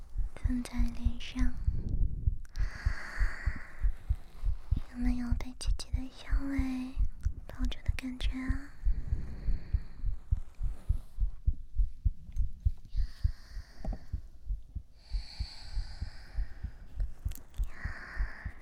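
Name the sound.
heartbeat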